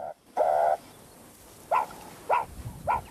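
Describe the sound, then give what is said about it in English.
A meerkat alarm call warning of a predator: one sustained tonal note as the low-urgency call, then three short, sharp, rising high-urgency calls repeated at steady intervals, loud over faint background noise. “The first moving animal call, and now we already have the low urgency call. And now it changes into the high urgency.”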